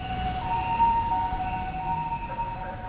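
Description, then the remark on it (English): An ambulance siren in Japan, called to an office building to pick up someone who had a bad fall on the job, sounds steadily throughout, its two-tone wail fairly loud over a dull rumble of traffic and street noise, with no one speaking. “An ambulance.”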